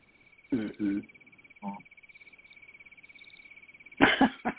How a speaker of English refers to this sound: The cricket.